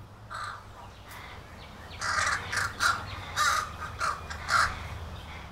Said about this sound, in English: Oh, wow, there are the new neighbors. The new family here in the green goes by the name Corvid. No, I didn't see it on their mailbox, unless it might be airmail. They're American crows, members of a big bird family, the Corvids.